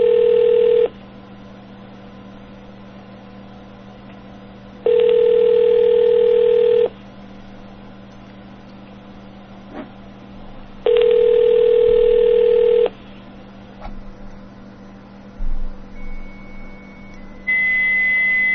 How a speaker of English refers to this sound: Okay, modem. Goodbye.